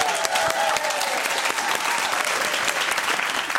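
Rapid, steady hand clapping fills the whole stretch, loud and continuous with crisp, dense slaps and no voices over it.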